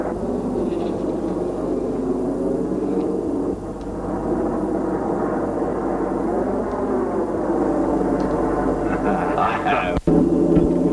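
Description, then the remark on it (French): A steady, droning roar of an airplane in flight to Japan fills the whole stretch, a constant low rumble with faint murmuring underneath and a brief sharp click near the end. “Deux semaines plus tard, elle prend l'avion pour le Japon.”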